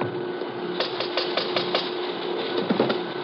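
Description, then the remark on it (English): Quick, sharp raps on the pay window of a paymaster and head timekeeper's office whose door is locked, about six in a steady rhythm, then a couple more after a short pause, over a constant hissy background with no one speaking. “You want to rap on the pay window?”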